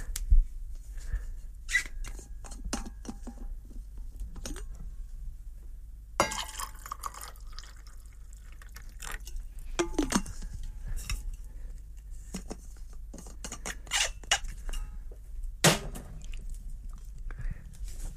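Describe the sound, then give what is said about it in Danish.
Hot water is poured into a warmed mug that already holds rum, in a short burst, followed by scattered drips, soft clinks of glass and utensils, and quiet handling noises, with no one speaking. “Og så det varme vand.”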